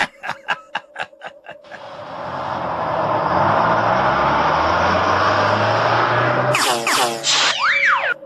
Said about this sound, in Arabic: أرى حافلة قادمة من بعيد.